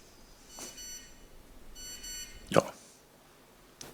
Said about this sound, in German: Und es piepst und wir bekommen ein Operator-Logo.